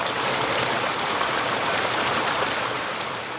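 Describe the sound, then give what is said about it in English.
A stream rushes steadily at Waterfall Gully in Adelaide, South Australia, a dense, even wash of flowing water with no breaks, no voices, and only the constant churn of the current throughout. “Waterfall Gully is the beating heart of Adelaide's national parks.”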